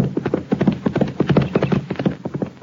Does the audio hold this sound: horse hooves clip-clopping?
yes